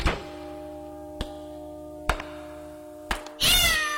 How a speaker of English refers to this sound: I stepped on my cat's tail. That's strange. I didn't see any cat. There isn't any. Just a tail.